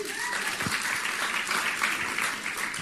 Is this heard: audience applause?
yes